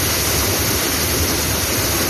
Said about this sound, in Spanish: Todo por la rotura de una tubería que hizo salir el agua a esta presión que escuchas. Una avería de la que ya alertaron a los vecinos el pasado viernes.